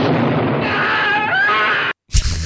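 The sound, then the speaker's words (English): A terrible, harsh scream with a shrill, wavering pitch, loud and sustained for nearly two seconds before cutting off abruptly; after a brief silence, a short noisy burst follows. “Terrible scream. I'm warning you now.”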